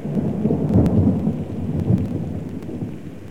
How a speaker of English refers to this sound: Let's enjoy the weather, except today we're in the pouring rain.